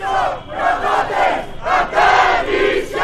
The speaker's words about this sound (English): They waved Greek flags and held banners that said, "No structures on the island. Europe must take responsibility." They chanted, "Greek islands will not be turned to prisons."